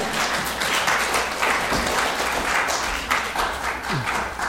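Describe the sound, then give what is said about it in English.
A Presbyterian audience applauds the choir steadily, dense overlapping claps forming a loud, sustained wash of sound with no break for the full length, a few sharper individual claps standing out. “I'm going to encourage the Presbyterians to give a round of applause.”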